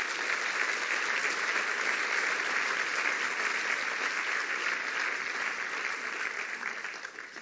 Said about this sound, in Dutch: Laten we ze een groot applaus geven.